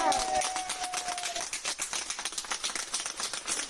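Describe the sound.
A group of hospital staff applauds steadily, the dense clapping continuous from start to finish, with a thin sustained tone sounding over it during the first second and a half and faint voices underneath.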